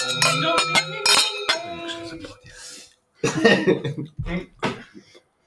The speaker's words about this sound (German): Wenn wir sonst mal anstoßen. Ja, komm schon. Ding!